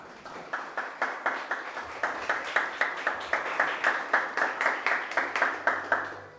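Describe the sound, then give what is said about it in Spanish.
A church audience applauds God in a steady, rhythmic unison beat of about three claps per second, loud and sustained over a bed of scattered clapping, with no talking. “Démosle un aplauso al que vive.”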